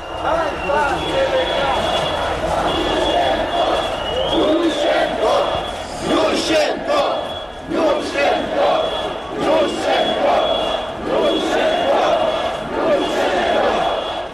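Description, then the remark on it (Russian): A large protest crowd shouts and chants during a revolution, heard through an open window, a dense, continuous roar of many voices rising and falling in waves, with a steady high-pitched tone running through it. “давайте еще раз вот откроем окно и послушаем, что они кричат.”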